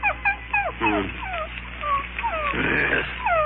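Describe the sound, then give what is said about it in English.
Nubbin, Runyon's cocker spaniel with bad tonsils, whimpers at a veterinarian's at night, a steady run of short, high, falling whines repeating one after another with no one speaking. “That night, he was worried about a cocker spaniel named Nubbin.”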